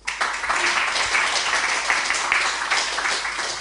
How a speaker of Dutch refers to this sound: Geef ze nog een waanzinnig applaus.